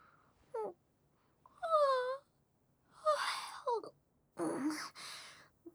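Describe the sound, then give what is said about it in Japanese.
A person gives a few drawn-out yawns: a voiced, falling moan stretching about half a second, followed by breathy, airy exhalations and a couple of short vocal sighs. “私にまで映っちゃったじゃないの。”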